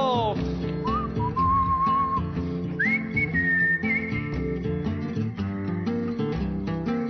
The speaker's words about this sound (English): Everybody whistle!